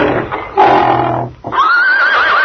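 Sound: horse neighing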